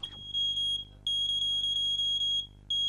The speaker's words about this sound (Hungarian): A legtöbb ilyen szerkezet addig sípol, amíg szénmonoxid van a lakásban. A riasztók többségét nem is lehet kikapcsolni.